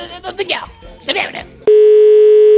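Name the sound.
telephone dial tone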